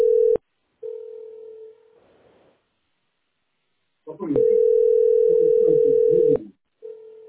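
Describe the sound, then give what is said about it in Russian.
A telephone ringing tone: a steady electronic beep that sounds in bursts of varying length, with muffled voices underneath during the longest stretch. “Вот это звонит, да?”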